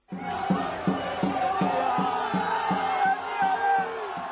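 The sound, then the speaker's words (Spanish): A crowd of hundreds of Betis fans at an airport cheers and chants loudly and steadily, with a regular pounding beat, like clapping or drumming, thumping roughly twice a second beneath the massed voices. “Ayer cuando llegaste al aeropuerto, el sonido que había en el aeropuerto fue también absolutamente espectacular.”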